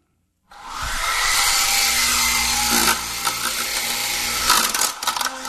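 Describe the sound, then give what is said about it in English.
The small electric motor of a remote-controlled helicopter whines steadily at a high pitch after a brief silence, with a broad buzzing hiss and slight wavering in tone, running continuously and fairly loud without any talking. “And that's my remote-controlled airplane helicopter.”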